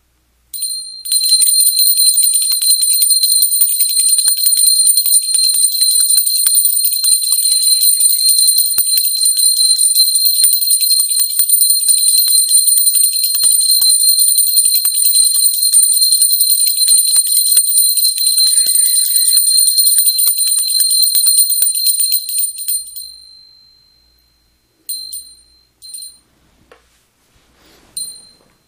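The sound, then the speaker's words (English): A bright, high-pitched bell tone rings steadily and loudly for about twenty seconds, then fades away, followed by a few short, softer rings. “Now that you'll be cleared from this bell, maybe brought to the highest vibration for the highest good.”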